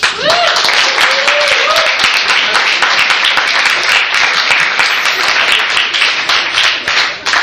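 A steady, dense burst of audience applause with many hands clapping at once, loud and sustained for several seconds, with a few brief cheers or whoops rising above the clapping near the start.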